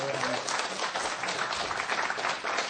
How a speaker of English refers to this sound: Yeah, give them a round of applause.